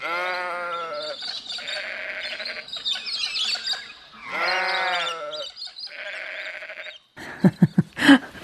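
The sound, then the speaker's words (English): Sheep bleat loudly, two long wavering cries a few seconds apart, with scattered higher chirping calls between them and a quick run of sharp knocks at the end. “Oh, those sheep.”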